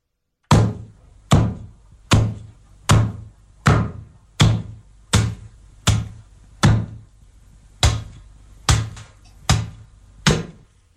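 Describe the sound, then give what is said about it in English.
Steady chopping: about a dozen heavy thuds struck at an even pace less than a second apart, each with a solid low knock and a short ring, with no voices. “That was chopping.”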